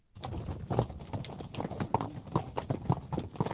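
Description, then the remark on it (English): Heavy shire horse hooves clip-clop in a steady walking rhythm at a children's farm in the West Midlands, moderately loud, with a slight echo and no one speaking. “Yet, for one family at Umberslade Children's Farm in the West Midlands, mention the word horse, and they are bound to think shire.”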